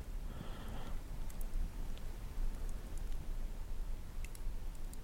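rustling

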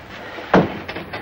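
door being closed

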